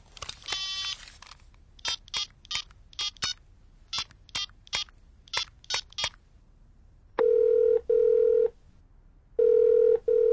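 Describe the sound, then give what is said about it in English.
A quick run of about a dozen short electronic keypad tones as a phone number is dialed to call a friend, followed by three longer, steady ringing tones. Clear, with no voices. “That's strange. Let's phone him.”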